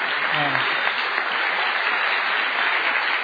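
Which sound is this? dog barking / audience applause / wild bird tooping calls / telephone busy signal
audience applause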